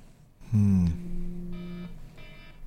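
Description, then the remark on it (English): A timer alarm goes off with a loud tone, then repeated electronic beeps sounding in short bursts at a steady pace, with no one talking. “Oh, is that our timer?”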